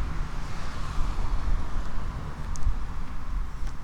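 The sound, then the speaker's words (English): A steady low rumble of traffic rolls past on a street, blending with gusty wind noise on the microphone as the wind picks up outdoors; no voices are heard. “Some traffic on the street here.”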